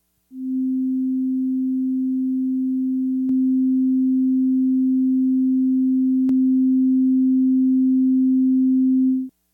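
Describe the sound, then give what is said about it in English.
A steady, low pure test tone holds for about nine seconds, marked by two faint clicks where it shifts in steps, drifting progressively further out of phase. No voices. “It'll start kind of near the center and then get farther out of phase and farther out of phase.”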